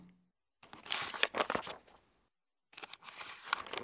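Paper pages rustle and flip in two crisp bursts of crinkling, like someone leafing quickly through a book, with a short pause in between and no voices.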